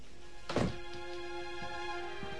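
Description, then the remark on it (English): A door shuts with a single heavy, dull thunk as someone turns out the light and walks out, followed by a couple of faint soft knocks over a steady low hum. “Sam turns out the light, walks out, and shuts the door.”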